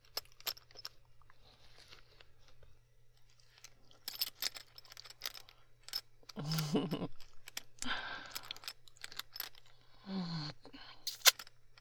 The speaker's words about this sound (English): Is my mouth being on the zipper a little teasing, huh? I like the feel of the metal on my tongue. And maybe I should just pull it down with my teeth, huh?